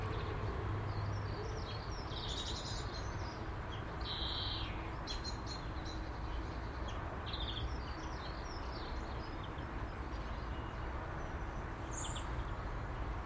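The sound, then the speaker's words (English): Birds, including blue tits, sing and call in short chirping bursts on a morning while chasing each other in flight, scattered over a steady outdoor hiss, some calls bright, others fainter, with no one speaking. “Just enjoying fresh air and birds and song.”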